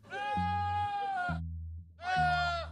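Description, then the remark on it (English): A goat bleats twice, loud: a long, wavering cry followed after a short pause by a shorter one, with a low steady hum underneath. “Or it might have been a goat.”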